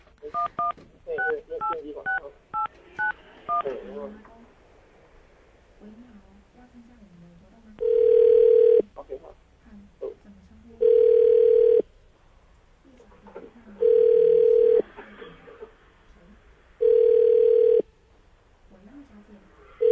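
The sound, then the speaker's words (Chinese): A quick run of telephone keypad tones as a number is dialed, then a steady series of loud ringback tones, one-second rings repeating every few seconds, with faint murmuring between them; the call goes unanswered. “怎么不接电话？”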